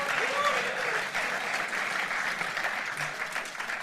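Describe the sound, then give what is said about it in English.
An audience applauds its drama team steadily, a dense wash of many hands clapping at an even level for several seconds with no clear pauses. “Now, how about we clap our drama team?”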